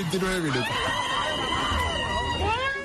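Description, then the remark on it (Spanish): A person lets out a loud, drawn-out cathartic scream that wavers in pitch, a voice imitating a tiger's roar, lasting about three seconds with no other sounds. “Y vuelvo a decir, igual estaba haciendo un ejercicio de yoga y era el grito del tigre, ¿no?”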